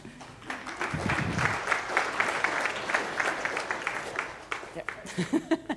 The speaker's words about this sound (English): And now you can applaud because I'm done.